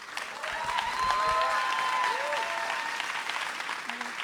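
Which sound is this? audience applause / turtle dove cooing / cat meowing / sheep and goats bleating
audience applause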